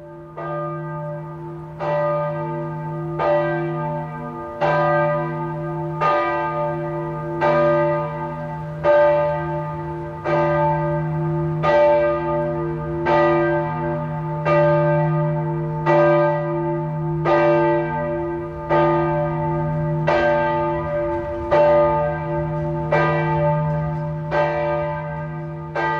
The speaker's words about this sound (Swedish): klockan i Gränna kyrka ringer in helgen.